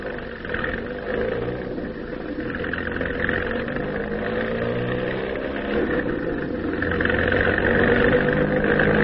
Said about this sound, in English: Listen, there's a car coming.